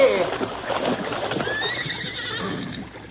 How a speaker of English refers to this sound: the load was more than the struggling bay horse could budge